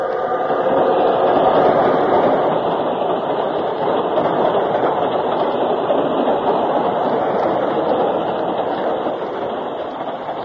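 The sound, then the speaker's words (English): A moving train rumbles and clatters along the rails in a steady, loud, continuous roar that fades slightly at the end. No voices are heard. “Let's get off while the train's still moving.”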